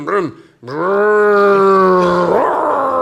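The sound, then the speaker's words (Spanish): A voice imitates a car engine starting: a brief sputtering burst, a short pause, then a loud, sustained buzzing drone with steady harmonics that rises slightly in pitch near the end. “Y arranco.”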